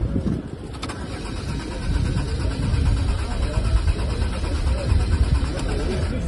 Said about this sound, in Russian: Тот же Герман Греф дважды безуспешно пытался завести презентованный на форуме автомобиль «Лада Аура» и потом разочарованно вылез из машины.